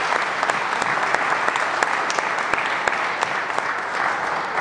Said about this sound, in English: I want to give a special recognition to SUNY Erie, Northtown Automotive, and Wester Automotive Group. And I'd like to ask everyone to join me in a round of applause for those key partners.